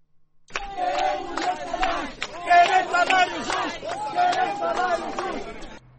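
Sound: protesters shouting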